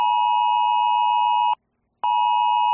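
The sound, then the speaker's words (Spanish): A loud, piercing electronic alert tone from a mobile phone, a steady high beep with bright harmonics that cuts off briefly for half a second, then resumes at full strength; a Monday test of Spain's new natural-disaster alert system, received in Santander. “Todos los propietarios de un móvil de última generación han recibido este lunes un mensaje de alerta acompañado de este pitido.”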